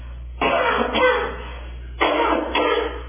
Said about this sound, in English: Pardon me whilst I cough.